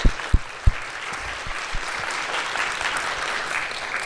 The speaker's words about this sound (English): Could we just give her a round of applause for just...